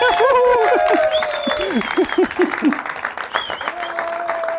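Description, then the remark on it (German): Audience applause at a live show in the Forum Offenburg, Germany, a dense steady patter of many hands clapping for a few seconds, with cheering and whooping voices rising above it in bursts. “Applaus.”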